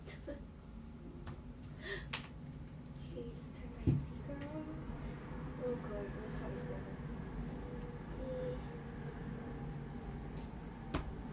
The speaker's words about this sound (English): Train's still running, it's still kind of early.